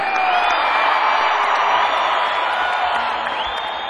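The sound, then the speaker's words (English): A concert audience roars and cheers continuously after being asked how loud they can yell, with high whoops and shrill yells rising above a dense, steady wall of shouting voices that stays loud throughout. “How loud can you yell?”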